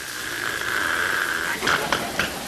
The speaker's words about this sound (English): Dog in the hallway coughing up a chicken bone.